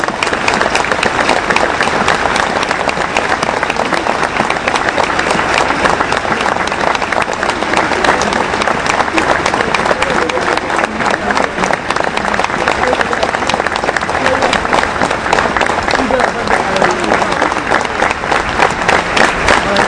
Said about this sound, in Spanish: En señal de ese duelo tardío, les pedimos a todos los presentes que tengamos un minuto de aplauso en memoria a quien pagó con su vida por derrotar a la impunidad y la corrupción.